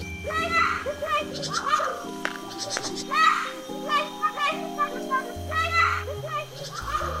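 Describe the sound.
A MacGregor's bowerbird mimics the sound of children playing, producing a run of high, chattering, child-like voice calls over a steady musical drone that continues beneath.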